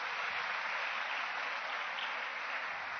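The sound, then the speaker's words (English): A crowd applauds as a clap offering to God, steadily for the full three seconds, a dense, even wash of many hands clapping at once, loud and continuous with no voices standing out. “Let's give God another clap offering.”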